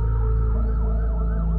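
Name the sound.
ambulance siren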